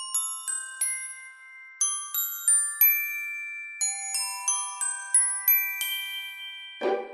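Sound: bells ringing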